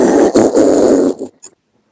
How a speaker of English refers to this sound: Then I go, oh, sorry, that's my fart noise ringtone.